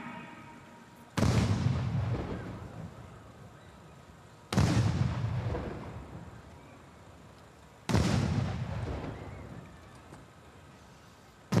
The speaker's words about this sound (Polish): Pluton salutowy ze składu Pułku Reprezentacyjnego Wojska Polskiego oddaje salut armatni, ponieważ jest to święto Wojska Polskiego, a nie święto narodowe, więc salut 12 salw. Oczywiście w ustalonych kilkusekundowych odstępach.